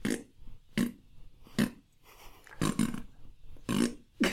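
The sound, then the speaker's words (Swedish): A string of about seven short, blaring fart noises, loud, coming in quick irregular bursts with brief gaps between them and no talking. “Men det blir att han bara fisar hela tiden.”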